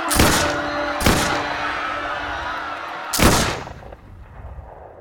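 Three loud musket shots, fired by British redcoat soldiers into a crowd in Boston, crack out at uneven intervals, two in quick succession and a third after a pause, each with a booming, echoing tail over a low steady hum.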